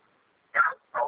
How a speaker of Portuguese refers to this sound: Se ela está latindo para algo e eu acho que não seja uma vítima, eu tenho que confiar que ela está latindo no lugar certo e que está latindo para alguém.